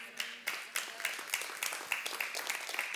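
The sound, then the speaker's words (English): A church audience applauds, a dense, crackling wash of many hands clapping at once, steady throughout with a few sharper claps standing out, fairly soft overall and with no one speaking. “First service didn't clap at that.”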